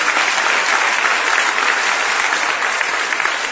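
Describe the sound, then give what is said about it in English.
Sustained applause from a large audience fills the space, dense and steady clapping at a strong, even level throughout without a break. “I hope you're clapping because you believe that's what the Bible teaches, not because I'm just a wild man up here looking crazy.”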